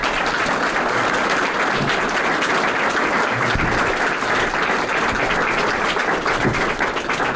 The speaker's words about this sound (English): Would you join me in giving a round of applause to our candidates?